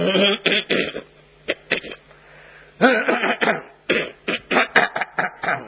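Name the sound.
coughing to clear throat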